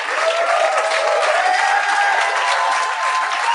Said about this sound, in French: J'aimerais ça qu'on donne une bonne main d'applaudissements à mes invités.